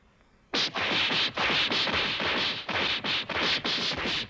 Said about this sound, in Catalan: Oh, encara que siguin invisibles tots dos, se sent el soroll sinistre dels cops que es donen! Tenen una rapidesa completament sorprenent.